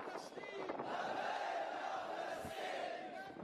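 protest crowd chanting slogans

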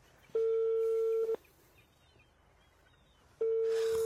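phone call ringing unanswered

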